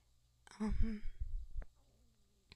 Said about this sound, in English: Oh, I hope you didn't hear my stomach growl right there. Hungry girl.